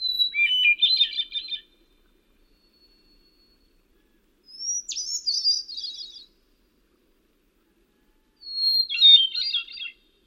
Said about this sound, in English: Like a thrush sounds best if you back off from it a little bit and get that rich melodic sound bouncing off the surrounding trees.